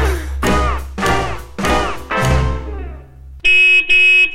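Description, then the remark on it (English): A car horn honks loudly in a series of blaring bursts that trail off, followed by two short, steady toots. No one speaks. “Oh, quit honking that horn”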